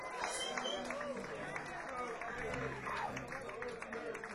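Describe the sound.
An audience claps and cheers for a drummer in a steady, dense wash of applause that holds at an even level for several seconds, with crowd voices mixed in.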